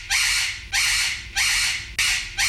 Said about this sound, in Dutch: 100 keer achter elkaar, waardoor mijn papegaai gaat schreeuwen. En ik kan je vertellen, het is een heel akelig geluid. Het klinkt namelijk zo.